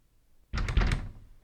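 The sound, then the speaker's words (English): A locked door rattles and clunks as someone tries to open it to get out, but it holds fast: a burst of jiggling knocks lasting under a second, with no voices. “It's locked.”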